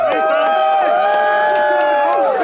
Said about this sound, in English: A group of supporters greeted him. They were cheering.